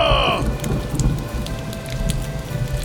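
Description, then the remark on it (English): Steady rain falls on Brass's Farm in California, a dense hiss of drops with scattered louder pattering hits over a low, constant rumble. No one speaks. “Now you're going to rain?”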